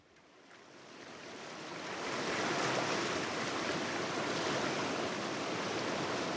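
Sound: river water flowing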